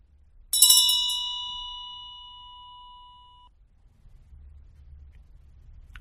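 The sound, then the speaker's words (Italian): A single meditation bell is struck once, its bright metallic tone ringing clearly and slowly fading over a few seconds into quiet room ambience. “Quando sentiamo il suono della campana, apriamo gli occhi alla nostra vera natura.”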